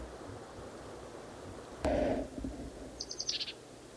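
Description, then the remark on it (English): A bird at least 40 feet from the recordist calls over a steady rushing background: one loud, low, buzzy call near the middle, then a quick run of four or five thin, high chirps about a second later. “Same bird as last cut.”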